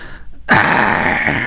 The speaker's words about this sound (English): So, hold on a second. Sound effect. 1998. So, door opens.